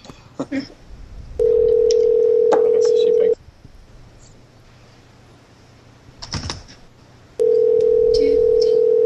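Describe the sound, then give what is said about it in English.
A phone call being placed to an Arkansas number: a few quick clicks and taps, then a steady electronic ringback tone sounds twice, each about two seconds long, separated by a pause of faint line noise. “Did I have the wrong number?”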